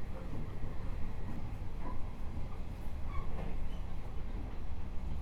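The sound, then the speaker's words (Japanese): A steady, low rumbling drone fills the inside of a moving new-model limited express train, the Hokutosei, in the early morning with the next stop Koriyama, with continuous rail noise and a couple of faint, brief higher tones drifting over it. “新型特急列車北斗星、ご利用くださいましてありがとうございます。”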